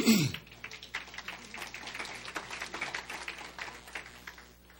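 A busy, continuous rustle of small paper sheets being handled and passed down the rows of an audience, with many quick crinkles and flicks overlapping at a steady, moderate level and no voices.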